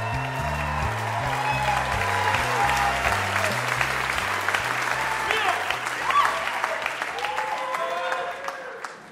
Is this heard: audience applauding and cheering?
yes